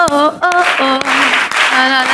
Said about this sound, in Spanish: La gente confundida, se ha puesto a aplaudir diciendo, pero esto qué cojones, ¿eh?